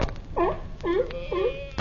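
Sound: crying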